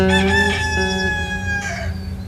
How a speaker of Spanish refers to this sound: tanto como el afinado canto de los gallos que anuncian el amanecer.